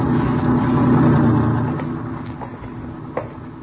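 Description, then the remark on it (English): A truck's heavy engine rumbles loudly on a small movie lot, then gradually fades as the truck moves away, leaving a softer low drone with a few faint clicks and knocks. “Watch the truck, Ben.”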